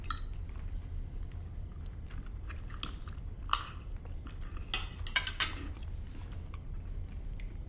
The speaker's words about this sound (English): The middle-aged man glances at his son and tries the dish. He raises his eyebrows and nods to himself as he chews the food.